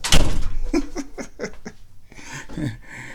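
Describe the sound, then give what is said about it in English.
A door opens with a sharp thunk and a brief rush of noise as people go back indoors, followed by bursts of breathy laughter and a shuffle of movement. “I'm just going to leave the door open.”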